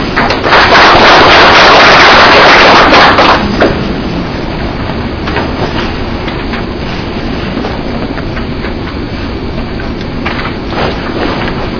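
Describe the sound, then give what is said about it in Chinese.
An audience at an industry seminar bursts into applause to welcome a speaker: a dense, loud clatter of clapping hands for the first few seconds, then settling into steady, slightly softer clapping that continues to the end with no one speaking. “我们鼓掌欢迎啊。”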